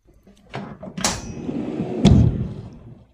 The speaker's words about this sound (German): Schublade auf. Schublade auf.